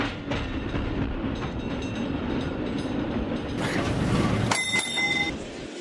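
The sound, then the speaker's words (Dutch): A tram rumbles in and slows to a stop at a tram stop on Moskouplein, its low rolling noise steady, then a bright bell rings near the end with a clear metallic ding. “Ik borg het in mijn binnenzak en wachtte op de tram.”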